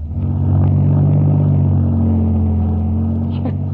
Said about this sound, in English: Relax, son. We'll just back out of the drive nice and slow.